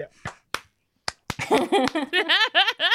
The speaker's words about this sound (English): Like, this felt like the end of an 80s film where I should do a slow clap now and go.